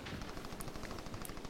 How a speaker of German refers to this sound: Ein Schuss.